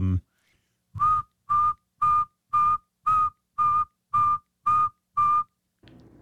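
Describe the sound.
A person whistles an imitation of a saw-whet owl call: nine clear, evenly spaced mid-pitched toots in a steady rhythm, fairly loud, with brief quiet gaps between them.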